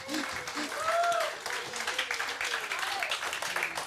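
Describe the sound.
An audience claps steadily in a dense, even wash of applause, with a few voices and whoops rising over it.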